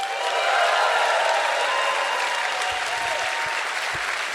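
An audience applauds steadily, a dense wash of many hands clapping at once that holds a fairly even loudness throughout, with no voices standing out.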